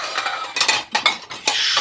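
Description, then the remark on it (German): Plates and dishes clatter against each other after lunch, going to the dishwasher, in a few sharp, ringing bursts, with a clinking metallic edge like cutlery mixed in. The sound is fairly loud and uneven, with no voices. “Teller,”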